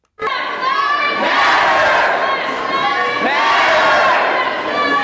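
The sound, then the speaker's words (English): A large crowd of Black Lives Matter protesters chants loudly in unison at the Mall of America in 2015, protesting last month's police shooting of 24-year-old Jamar Clark in Minneapolis; the massed voices swell in repeated waves and echo through the shopping mall, with no single speaker standing out. “Just yesterday, Mall of America, we heard protesters there trying to draw awareness to last month's police shooting of 24-year-old Jamar Clark in Minneapolis.”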